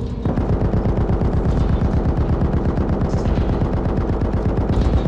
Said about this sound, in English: There came a sudden explosion of activity as the Duchess's gun sprang to life again and opened fire on the monster.